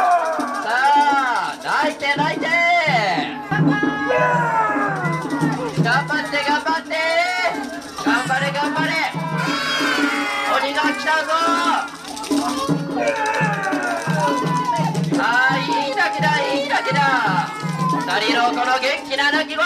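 A baby wails loudly and almost continuously during a crying sumo contest, with rising and falling cries over the steady hum of a lively crowd chattering and calling out around it.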